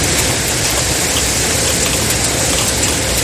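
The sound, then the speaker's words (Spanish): Steady, fairly loud rain falling continuously, a dense even hiss of drops spattering on a hard surface with no voices or pauses throughout. “Y una vuelta al cole, oye, a primera hora que ha estado pasada por agua.”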